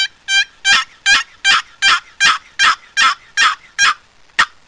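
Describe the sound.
A turkey call is worked to sound out a long series of about eleven drawn-out, raspy gobbler yelps, each yelp lengthened, in a steady rhythm, loud, with no talking.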